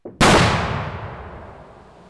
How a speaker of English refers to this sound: With that explosion, a portion of stream at the headwaters of Big Haymeadow Creek in Langlade County is again flowing freely, a beaver dam blasted out of the way.